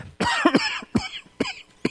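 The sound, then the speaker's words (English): A rapid series of harsh coughs from a preacher during a Bible teaching, about five bursts in quick succession, fairly loud, with brief pauses between them and no talking. “Still have a residual cough.”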